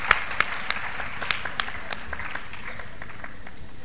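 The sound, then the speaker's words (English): A crowd at an evening Black History Month event applauds a professor who helped make the evening happen, a dense patter of many overlapping claps with a few sharper individual claps standing out, holding an even, moderate loudness throughout. “Would you please all join me in applauding him?”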